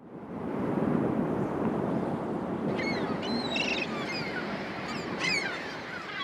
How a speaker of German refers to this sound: Heftiger Wind peitschte die Wellen zu Gischt. Die Luft war erfüllt von Heulen und Rauschen und den Schreien der Vögel, die zu Tausenden in den Steilklippen lebten.